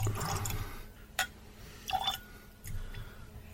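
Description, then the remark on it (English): Quiet liquid sounds: a soft pour or trickle of a drop of water into a glass of whiskey, then a few brief drips and a small clink, with low room noise and no talking. “I got to put a drop of water in this”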